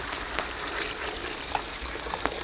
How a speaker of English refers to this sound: Filled the kettle with water.